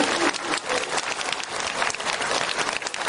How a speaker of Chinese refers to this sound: 鼓掌。